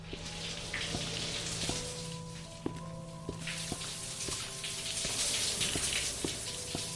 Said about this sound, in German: Also dieser Flur, die Fenster sind alle gebrochen. Es regnet draußen wie in Strömen. Und der Boden ist deswegen auch etwas durchflutet.